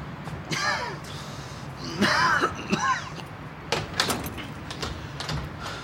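Up close, a door handle is pressed and jiggled against a locked door, giving squeaky metallic creaks followed by a few sharp rattling clicks, with no voices.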